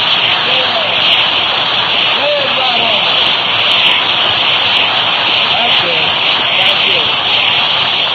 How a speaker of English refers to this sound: Lay that applause on you.